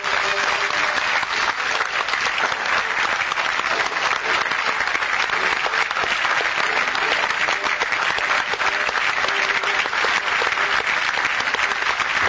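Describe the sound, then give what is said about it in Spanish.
Sustained audience applause with cheering and shouts of bravo, a standing ovation after a theatre play, a dense, steady wash of clapping that stays loud and even for the whole stretch without letting up. “Sí, bravos y de pie. Vítores.”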